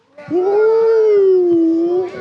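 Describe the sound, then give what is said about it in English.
Human voices imitate a whale with one long, wavering, moaning call, held steadily for nearly two seconds, loud, with a slight rise and fall in pitch. “But did you know, firstly, can you make a whale noise?”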